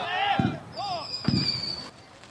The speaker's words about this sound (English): Members of Bravo Company of the 634th Brigade Support Battalion leave Tommy Stewart Field as fireworks go off in their honor.